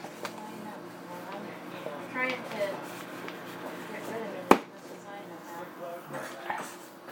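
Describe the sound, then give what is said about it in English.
A pantry door creaks open amid light kitchen rustling as a cardboard oatmeal container is handled, with one sharp knock partway through and soft clattering before and after. “So that was the oatmeal that you just heard. That's our pantry door, of course.”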